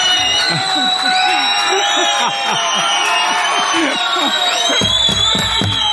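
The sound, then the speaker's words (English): A large crowd gathers at a feast, many overlapping voices shouting and cheering together in a steady, loud din that continues for the whole stretch, with a deeper rumbling layer joining near the end. “We got a crowd. Look at this. The feast must have begun.”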